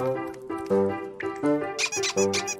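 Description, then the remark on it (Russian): A rubber duck from a treasure chest, identified by touch in a guessing game, squeaks repeatedly, a run of quick, fairly loud honking squeaks in an uneven rhythm, with no voices. “Это резиновая уточка.”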